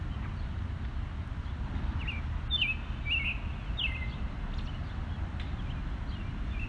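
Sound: birds chirping and singing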